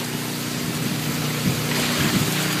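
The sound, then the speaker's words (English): Heavy rain pours down in a steady, dense hiss, with the low drone of an idling vehicle engine running underneath throughout, heard while driving around a property with a pond where a tree has fallen. “Again, the rain is coming down pretty good,”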